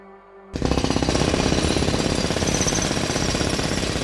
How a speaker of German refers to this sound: Was jetzt folgt, wird noch Monate dauern. Eine Baustelle, die sich durchs ganze Haus fressen, klopfen, sägen, hämmern wird.